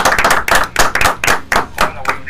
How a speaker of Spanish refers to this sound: Recibimos con un gran aplauso en nuestro programa Estrellas del Deporte a Rodrigo Goldberg, el polaco. ¡Fuerte los aplausos, muchachos!